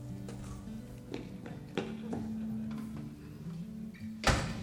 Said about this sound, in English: what have I told you about slamming the door?